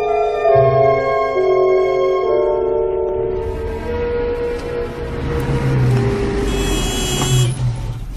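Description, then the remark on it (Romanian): A car pulls up and comes to a stop at a gate, its engine rumbling loud, with low surges over a steady humming drone and no voices. “Mașina mamei tale s-a oprit la poartă.”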